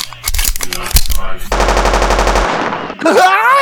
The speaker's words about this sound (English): Shoot me with that machine gun built into your wheelchair?